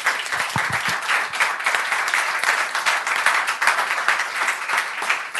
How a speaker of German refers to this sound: Dann machen wir erstmal kurz einen Szeneapplaus natürlich für unsere 6 Kandidatinnen. Applaus.